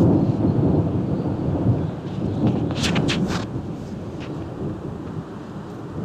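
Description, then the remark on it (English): Deep, rolling thunder from an afternoon storm rolling in over Grouse Meadow rumbles steadily for several seconds, loud and low, with a brief crackle of higher hiss partway through and wind-like noise underneath. No one speaks. “And seems like a storm is rolling in, of course.”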